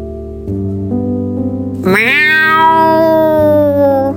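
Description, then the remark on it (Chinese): A big cat gives a loud meow, one long drawn-out cry that rises sharply and then slowly falls, sounding over a steady, sustained musical tone in the background. “突然有一只大猫咪出现在他们眼前，它张开大的大手，超级大的双手挡住了小老鼠的去路。”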